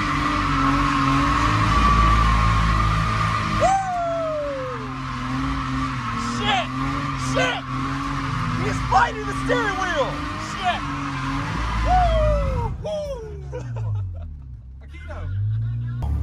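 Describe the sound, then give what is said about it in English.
A car drifts with its engine roaring steadily while tires squeal again and again in short, wavering, loud bursts, ending with a falling engine whine. “Did you see the drift Aikido? You can drift, but you can't.”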